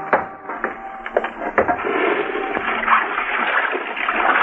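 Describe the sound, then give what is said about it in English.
Water splashing and sloshing as a man washes up in the kitchen, smearing a little water on, with a few sharp splashes early on giving way to a steady swishing wash, heard alone with a slightly muffled, old-recording quality. “A little water he smears on and the dirt he wipes off on a towel.”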